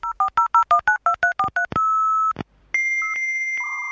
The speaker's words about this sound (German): Ach, der Klang von alten Modems. Ein fast vergessenes Geräusch aus einer Zeit, als das World Wide Web noch in den Kinderschuhen steckte.